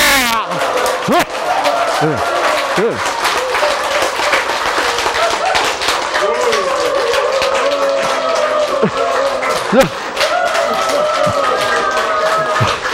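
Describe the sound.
A crowd claps hard and steadily for the whole stretch while many voices shout and cheer over it, the dense, loud patter of hands never letting up.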